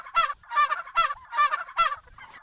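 Several turkeys gobble in quick, overlapping bursts on Connie and John Caveney's farm outside Monticello, Illinois, a loud rattling chorus of repeated gobbles with no talking.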